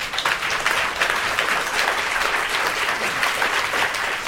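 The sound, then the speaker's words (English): The live audience of a program on the book The American Resting Place, 400 Years of History Through Our Cemeteries and Burial Grounds applauds itself, a dense wash of many hands clapping at once, holding an even, loud level throughout with no voices standing out. “We also want to thank everyone in our live audience for participating in the program, and I think you should give yourselves a big round of applause.”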